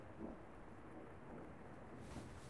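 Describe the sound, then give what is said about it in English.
A thunderstorm: steady rain hisses evenly throughout while a low thunder rumble rolls underneath, fairly quiet and continuous with no voices. “And then the storm made me more anxious.”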